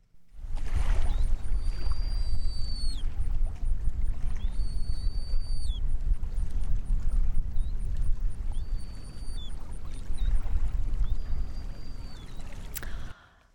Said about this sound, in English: Well, you know, I don't know if on my phone line, I could just hear the highest pitched part of that, but I believe that was a Caspian tern. It was.